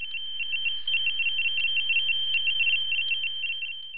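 A telephone rings with a steady electronic trilling tone, pulsing rapidly and continuously for about four seconds at a moderate level, with no voices present, at the start of a listener's call-in message.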